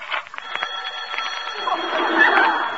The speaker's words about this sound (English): What's that? It's the phone ring. Well, answer it.